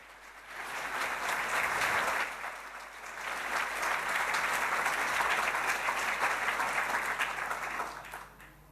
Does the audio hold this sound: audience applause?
yes